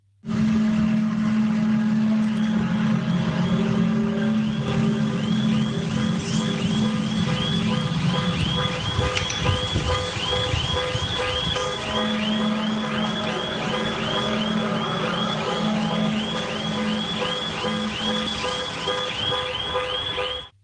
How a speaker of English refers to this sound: The month before in Germany, a horn-like sound set off car alarms and was recorded and uploaded to YouTube on January 20th, 2012.